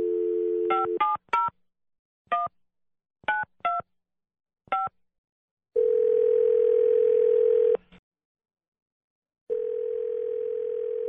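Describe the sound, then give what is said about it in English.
A rapid series of about ten touch-tone dialing beeps in short bursts as a phone call is placed, followed by a steady phone tone that cuts off and then resumes, loud with no talking. “I'm going to get her on the phone here.”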